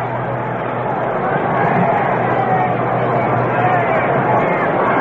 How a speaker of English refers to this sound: Crowd coming alive as Mays moves into the batter's box.